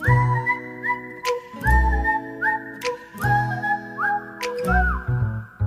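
A pitch whistle sounds a series of clear, steady, close-up tones in short repeated phrases, some sliding between pitches, with a low droning hum underneath and no talking.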